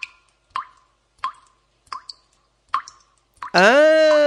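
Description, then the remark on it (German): Water drips from a roof into a hole in cement in a slow, steady rhythm of six distinct, clear plops, before a loud voice abruptly begins at the end. “Ich seh von der Dach Tropfwasser, du a ran in die loch.”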